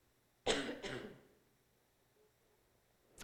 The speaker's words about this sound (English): Excuse me while I cough.